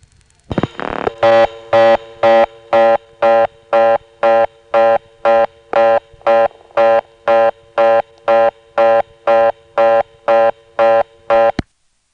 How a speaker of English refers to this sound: I like the way the reorder sounds over this trunk. It sort of rings along with it.